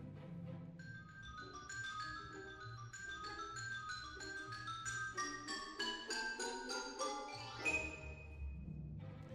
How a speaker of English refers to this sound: The xylophone.